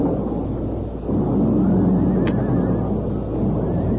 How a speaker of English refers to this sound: A sudden flash of fire and an ear-splitting explosion came without warning just ahead of the horses. The narrow trail was torn from the wall, and tons of rock clashed down with the horses, the stagecoach, and the occupants.